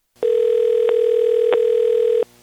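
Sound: phone call ringing tone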